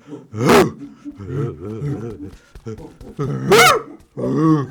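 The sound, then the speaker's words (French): An old bulldog growls, a rumbling, wavering snarl broken by two sudden loud, harsh outbursts near the start and again toward the end. “Alors, Dika, le vieux bulldog qui lui fait peur.”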